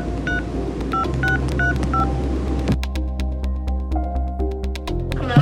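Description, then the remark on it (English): A quick run of about six short touch-tone dialing beeps for a phone call to a friend, evenly spaced and clear, playing over a steady background music bed that continues alone afterward. “So I immediately called”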